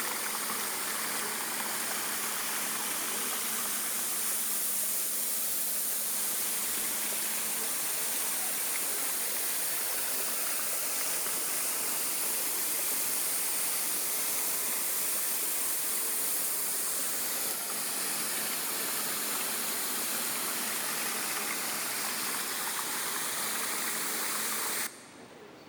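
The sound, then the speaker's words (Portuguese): Water leaking through the side of a dam gate on the Rio Leão and Rio Bonito dam, not through the spillway, during a dry spell: a steady, loud rush of water that roars continuously for the whole stretch, broad and hissing, with no one speaking. “Podemos observar ali a fuga de água, né, pela lateral da comporta.”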